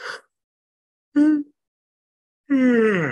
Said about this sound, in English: You know that when I yawn, it's just energy moving.